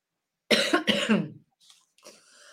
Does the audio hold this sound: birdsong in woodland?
no